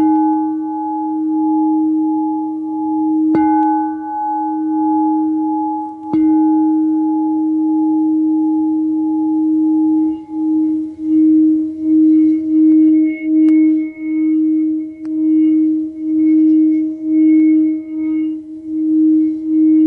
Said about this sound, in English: She said, can you be still enough to hear the actual mineral or metal within that glass when you play it? So here's palladium.